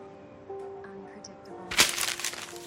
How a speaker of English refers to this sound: He crumples it and throws it on the floor.